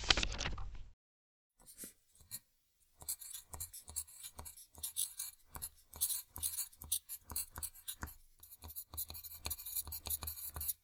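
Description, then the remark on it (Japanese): A mechanical pencil scratches across a school notebook in quick, irregular strokes as someone draws a tiger, fairly crisp, with no talking; a short loud burst of noise comes just before the drawing begins. “ブラック、紙とペンあるか？ ああ、授業で使うノートとシャーペンなら。”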